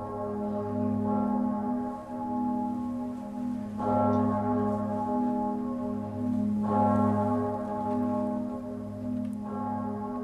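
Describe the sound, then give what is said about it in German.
The deep noon bell of Bern Minster (Berner Münster) is struck four times with a new clapper at slow, even intervals, each stroke blooming into a long, rich hum that rings on continuously between strikes. No voices. “Jetzt ziehe ich das langsam zurück und tue den Glockenschlag mit dem neuen Klöppel rein.”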